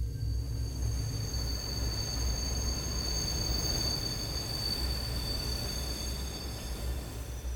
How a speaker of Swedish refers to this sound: Helt säkert så visste var och en av oss att det var ett tåg vi hörde och blickarna föll mot skogen och träden som skymde delar av tågbanan.